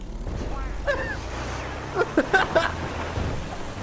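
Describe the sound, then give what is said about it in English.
A car's suspension makes odd, cartoonish squeaks and boings over a steady low rumble, with a rising squeal early on and a cluster of short bouncy clunks near the end. “This is a clown car. Every time the suspension does something, it makes dumb noises.”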